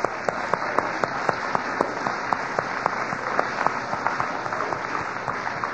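Steady hand clapping from a crowd, with the speaker clapping along, dense and fairly loud, with sharp individual claps standing out in a quick, irregular rhythm throughout.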